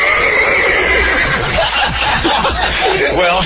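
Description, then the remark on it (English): A horse neighs loudly, a long shaky whinny with a wavering, quavering pitch that carries on for a few seconds with no one speaking. “I saddle up my horse, and I spend time, you know, brushing the horses”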